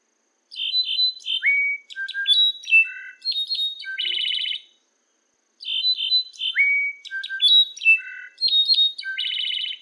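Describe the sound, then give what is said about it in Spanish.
A slate-colored solitaire (jilguero gris) sings two clear, complex phrases of high, ringing whistles and bell-like tones, each about four seconds long and separated by a short pause, loud with no talking. “Ah, uno de mis cantos favoritos es el Slate Colored Solitaire, el jilguero gris.”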